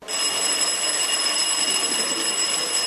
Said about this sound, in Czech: Imamo zvono koje zvoni 45 minuta, pa onda 5 minuta pauza, pa ponovo 45 minuta.